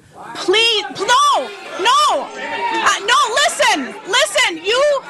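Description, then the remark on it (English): A loud, agitated crowd of protesting Wisconsin citizens fills a legislative committee hearing room, many voices shouting and clamoring over one another in a continuous, rising and falling din of protest with no single speaker standing out. “The suggestions were not well received by many in the crowd.”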